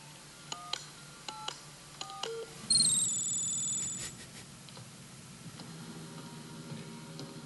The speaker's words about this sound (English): I wish I knew what numbers those were on a touch tone phone. I'm not that good with sounds to be like, oh, they just pressed 313.